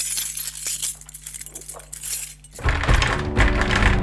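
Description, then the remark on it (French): A bunch of keys jingles, starting with a few faint metallic clinks over a low hum before breaking into a loud, sustained jangle for the last second and a half. “De l'action, des clowns, du suspense, des clés, de l'émotion et même un trousseau.”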